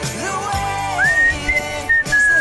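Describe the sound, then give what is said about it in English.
A man whistles a short, bright tune on a Christian radio broadcast in San Diego, California, over steady background music, the clear notes rising and holding in a lively melodic line, fairly loud. “I'm just whistling on Christian radio, because that's what I can do.”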